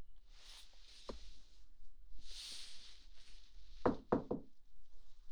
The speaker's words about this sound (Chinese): 进来进来，进我房间不用敲门啊，真是的。